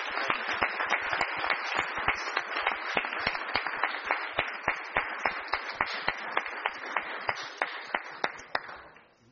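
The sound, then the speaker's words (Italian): An audience applauds the vigili, a dense wash of many hands clapping with a few sharp, regular claps standing out, steady for several seconds and then fading out at the end. “La foto ovviamente è di rito in questi casi, quindi direi di nuovo di fare un bel applauso ai nostri vigili.”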